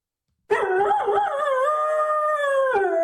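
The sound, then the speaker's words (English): After a brief silence, a person lets out a loud imitation of a dog's howl: one long, sustained cry with a wavering pitch at the start that settles into a steady wail. “Do you know what sound I would make if I was a dog?”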